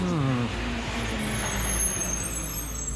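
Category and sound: vehicle, truck arriving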